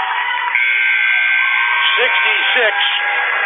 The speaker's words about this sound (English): 3 seconds, 2 seconds. Here comes the buzzer.